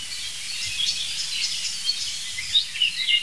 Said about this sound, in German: Hört mal. Das ist eine wirklich leitende Singdrossel, würde ich sagen. Und auf jeden Fall jetzt eine sich aufregende Amsel, die wirklich empört ist, muss ich sagen.